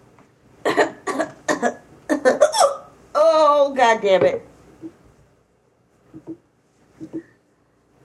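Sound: hiccups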